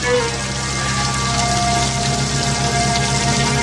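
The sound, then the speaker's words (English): A shower runs steadily in a film's shower scene, water hissing and spattering in a dense, constant wash of noise that stays loud from start to finish, with no voices. “that is a blatant tribute to Psycho there as well. The antlers? No, the shower scene.”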